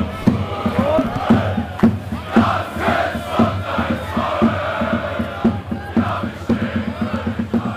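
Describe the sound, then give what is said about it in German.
A huge stadium crowd roars continuously, thousands of voices blending into a loud, dense wash with rhythmic pulses of chanting and clapping running through it. “Am Wochenende noch auf dem Platz vor tausenden Zuschauern.”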